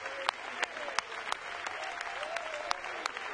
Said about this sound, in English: They're clapping for horse races. We're clapping because we're one of them.